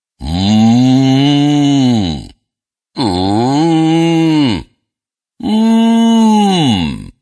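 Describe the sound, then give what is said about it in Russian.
Three long, sustained hums made with closed lips as a speech-technique exercise, each lasting about two seconds with short pauses between, the pitch sliding up and down smoothly, fairly loud. “Сомкните губы и тихо, спокойно мычите.”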